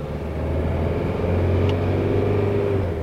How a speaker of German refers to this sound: setzt sich Möllhoff-Mülius ins Auto, fährt 50 Kilometer in einen Vorort von Berlin